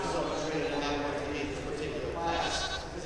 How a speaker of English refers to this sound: I think it's fun having like sheep, because once you get to train him, he's not so crazy.